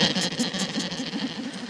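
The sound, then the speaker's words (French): A film creature sound effect with a wavering, bleat-like tremble, like a sheep's quavering cry mixed with a purr, lasting about two seconds with no talking. “Ou alors ce serait un mouton.”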